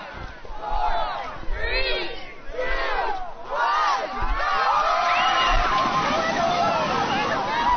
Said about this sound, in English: More than 100 people spent the first day of 2024 splashing in the frigid waters of Auk Bay as part of Juneau's 33rd annual polar bear dip.